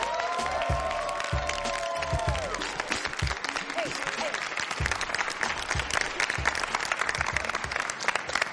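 A crowd claps loudly and steadily for several seconds, with whoops and cheers rising over the applause near the start, the dense clapping filling the whole stretch.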